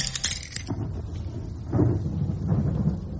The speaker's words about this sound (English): There's a fair storm blowing out tonight